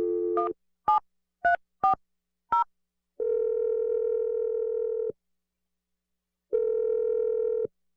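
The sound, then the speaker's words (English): A quick series of five or so keypad beeps from a telephone being dialed to make a call, followed by a long, steady electronic tone that stops, pauses, then sounds again. Clear, with no voices. “I'm going to dial the number and let you make your call.”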